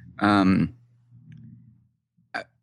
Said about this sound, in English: Like in our case, we use a click noise when you connect an arrow to an item. It's not like we're a noisy app. We don't make a lot of noise very often, but occasionally we do something.